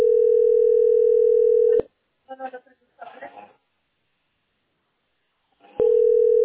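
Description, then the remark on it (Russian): A steady, unbroken telephone dial tone hums at a mid pitch while a phone call is being placed, cuts off with a click for a brief stretch of voice, then silence, and the same loud tone returns. “Дали телефон звонить. Вот звоню, а видишь, ваша позиция.”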